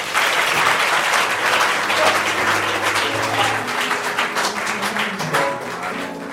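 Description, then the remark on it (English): A church audience applauds steadily after a sermon, dense clapping at a loud, even level for several seconds, with faint murmurs and tones beneath before it slowly eases. “A round of applause for the word.”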